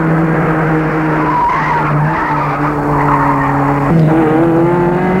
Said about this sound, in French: Quitte Paris et suit la route. La voiture file de plus en plus vite. La voiture roule de plus en plus vite. Elle n'arrive pas à la freiner.